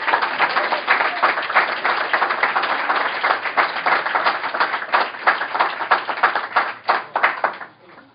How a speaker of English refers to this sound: Kaws's movement is growing rapidly, and we thank him for showing up to help us celebrate this evening. Let's have a round of applause for Kaws in the house.